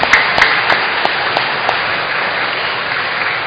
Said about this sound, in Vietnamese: Chúng ta xin tất cả mọi người cùng cảm ơn những người đã có góp công góp sức vào trong cái lớp học này bằng một tràng vỗ tay thật lớn.